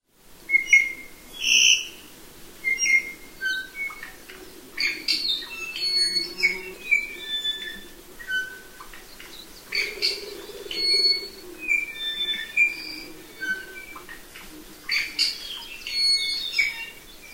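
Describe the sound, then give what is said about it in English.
A bird's courtship song in a forest on a cold, late winter morning: a steady stream of high, clear whistled notes and quick chirps at varying pitches, repeating without pause over a soft low background rumble, with no talking. “An ivy courtship song echoes in the forest on a cold, late winter morning.”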